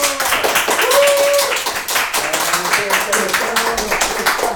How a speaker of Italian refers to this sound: Applauso!